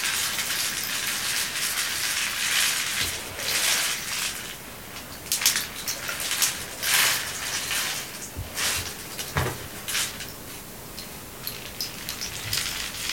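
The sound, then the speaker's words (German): A steady, bright wash of babbling brook water with frequent small splashes and trickles, continuous throughout, with no voices. “Das wunderschöne Plätschern des Wassers.”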